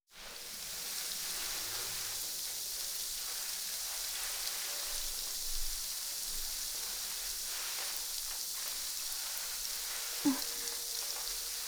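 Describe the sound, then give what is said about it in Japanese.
A steady fizzing crackle of carbonated shampoo foam bubbles popping on a scalp during a carbonated head massage, a dense sizzling hiss that runs evenly throughout with one brief soft bump near the end; no talking. “シャンプーの泡の中に炭酸が入ってて、頭皮をパチパチパチパチって刺激するんだ。”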